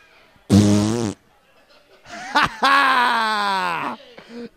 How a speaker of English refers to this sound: Hey, we're farting over here.